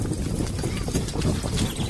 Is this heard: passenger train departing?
no